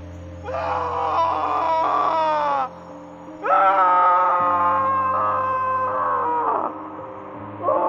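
Two long, anguished wailing screams rise and waver over a steady low drone, each lasting a couple of seconds, with a third cry just beginning as it ends.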